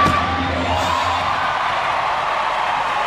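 A large arena crowd at a gymnastics final roars in sustained cheering as American gymnast Lori Hernandez launches into a double-twist Yurchenko vault in the U.S. team's first rotation, a loud, dense wash of whoops and yells that holds steady for the full three seconds without letting up.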